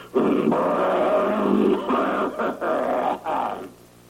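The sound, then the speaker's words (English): A voice imitates a woman's involuntary sound made in the guise of clearing her throat: a low, rasping throat-clearing grunt, loud and sustained for several seconds with a few brief breaks, rough and guttural like a growl. “It's always in the guise of clearing her throat, but it's actually God's way of letting us know that all we've been listening to is a big lie.”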